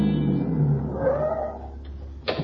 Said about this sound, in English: It's only a few minutes later that a car drives up.